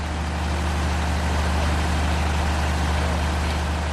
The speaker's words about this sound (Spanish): Y si seguimos por ese mismo pasillo te encuentras con la sala de máquinas y el tremendo sonido del generador.